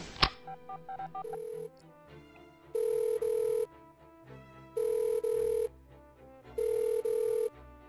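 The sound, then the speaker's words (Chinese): A phone ringback tone repeats three times in steady, evenly spaced bursts with pauses between, after a brief dialing beep at the start, as a call to an older schoolmate goes unanswered; quiet background music underneath, no talking. “平时明明对我很好的，关键时刻这么不靠谱，都这么久也不接电话。”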